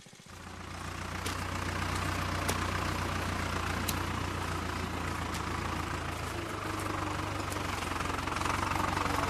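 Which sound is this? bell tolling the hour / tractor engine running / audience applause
tractor engine running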